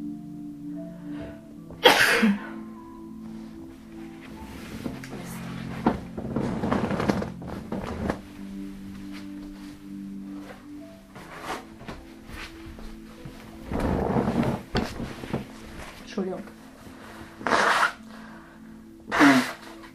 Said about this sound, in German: Gott, was ist denn jetzt los? Entschuldigung, warum muss ich denn jetzt niesen?